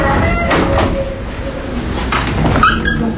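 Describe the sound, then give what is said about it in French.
The small door of a courthouse opens as people enter on an overcast day: a couple of clunks and rattles, then a brief high squeak, over a steady busy background hum. “Toujours rentrer par la petite porte.”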